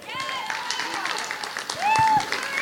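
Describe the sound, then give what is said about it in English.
An audience applauds a guest being introduced onto a panel, with steady, dense clapping throughout, mixed with scattered cheers, voices and a few high whoops that swell louder toward the end. “Big round of applause.”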